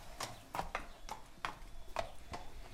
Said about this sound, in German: Ein kleiner Pferdehof am südlichen Stadtrand Berlins. Auf einer eingezäunten Wiese stehen 5 Pferde